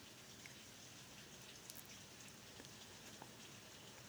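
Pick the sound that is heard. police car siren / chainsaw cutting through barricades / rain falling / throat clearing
rain falling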